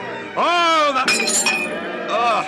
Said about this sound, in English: You broke your glass. I'm sorry. Sorry, don't be. There are plenty more goblets and wine and...